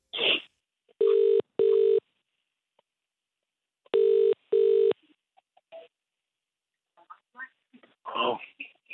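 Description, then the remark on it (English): A telephone ringback tone sounds twice in the classic double-burst pattern, steady and clear, with a pause between, followed by faint rustling and a brief crackle as the line connects on a phone call to a man. “Are you ready to ring him?”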